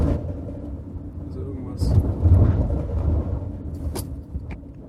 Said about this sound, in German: Das Auto ist, glaube ich, zu laut für so eine Scheiße.